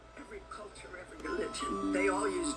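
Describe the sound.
A chiming, bell-like melody plays in the background, its tones growing clearer and louder in the second half, while people talk over it.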